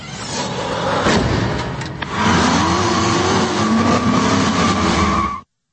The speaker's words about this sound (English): So a hot, fertile, healthy chick in a cool retro sports car shooting guns.